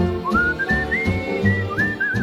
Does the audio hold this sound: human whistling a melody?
yes